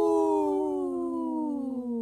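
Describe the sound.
A person howls like a wolf in the background of a radio show: one long, loud, sustained cry that slowly slides downward in pitch for about two seconds, with no talking.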